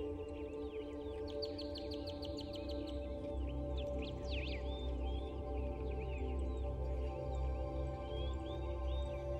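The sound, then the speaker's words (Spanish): Exotic, brightly coloured birds chirp and trill in quick, high bursts from nearby trees, repeating throughout over a steady, low droning hum. Nobody speaks. “Algunas especies de aves revolotean entre árboles cercanos. Son aves exóticas, de colores muy vivos.”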